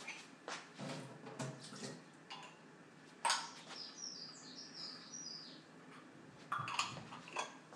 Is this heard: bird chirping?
yes